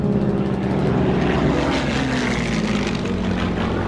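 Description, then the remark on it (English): An aircraft's propeller engine drones steadily in flight at 15,000 feet, after its crew has dropped their payload on the railway yards in Hanover, Germany: a loud, continuous throbbing hum with low harmonic tones and a broad rushing roar that never lets up. “And the place where I'm going to start my story is the moment where David is 15,000 feet in the air and on the brink of disaster.”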